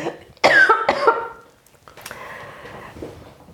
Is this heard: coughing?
yes